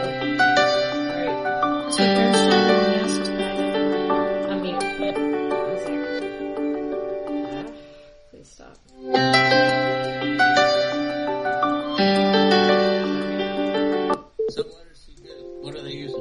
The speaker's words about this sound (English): Sorry, that phone call was loud.